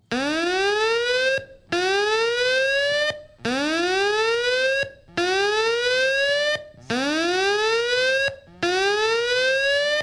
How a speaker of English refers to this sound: That's the lockdown alarm. That's stay put.